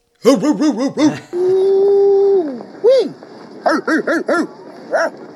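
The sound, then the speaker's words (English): A man's voice imitates a dog, letting out a quick run of sharp barks, a long sustained howl-like note, then another single bark and a final burst of several loud barks. “You take a sip or a puff when … barks.”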